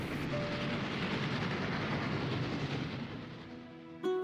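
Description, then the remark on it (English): Busy train station ambience at the Bernina train station: a dense, steady roar of a throng of people and machinery that eases slightly toward the end, where a sudden loud, tonal horn-like blast cuts in. “We joined the throng of people at the Bernina train station. It was buzzing with excitement for the start of the train journey.”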